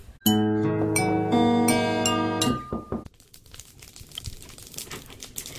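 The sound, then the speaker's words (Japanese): A bright, sustained musical chord rings for a couple of seconds, then gives way to a steady patter of crackling and popping from an open field burning (noyaki) in which artworks are being fired, with no one speaking. “今パチパチ音を上げているのは野焼きの音なんですけれども”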